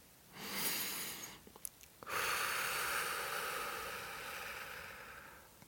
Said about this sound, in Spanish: Y ahora toma una respiración profunda.